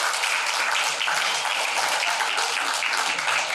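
A crowd applauds steadily, a dense wash of many hands clapping at once, sustained at an even, fairly loud level for the whole stretch without any voices over it.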